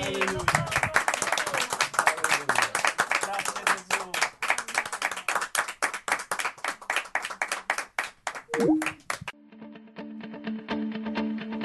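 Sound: audience applause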